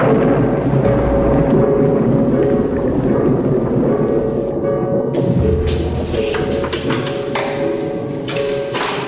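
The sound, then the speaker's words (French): A heavy metal gate at Alcatraz prison opens for an entering prisoner, then grinds and clangs shut, with deep reverberating rumble, ringing metallic overtones and a few loud thuds, sustained and loud for the whole stretch. “Devant eux, résonne le bruit lourd d'une grille métallique. Elle s'ouvre, le prisonnier entre, puis la porte se referme.”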